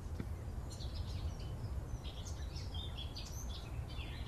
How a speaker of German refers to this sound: Im Hintergrund singt eine Mönchsgrasmücke. Ist das drauf, die Mönchsgrasmücke? Ja, warte.